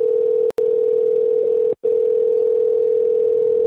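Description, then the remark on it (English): A steady, unbroken telephone dial tone of an outgoing call, made to call someone back, hums loudly on one low pitch, cutting out briefly twice early on before continuing evenly to the end, with no voices. “You know, she fucking calls me on my personal phone to fucking start shit, so I call back and this is what happens.”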